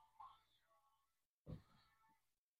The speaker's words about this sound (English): She's going into heat. Yeah, she's going into heat. Come here, kitty.